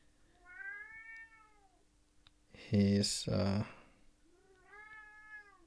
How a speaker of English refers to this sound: And that right there is my cat, Tahveli.